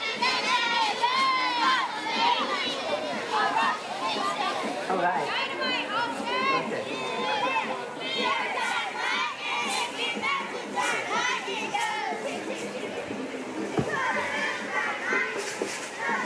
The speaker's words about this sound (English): They cheer loud and proud for their football players. They work hard, but also have lots of fun.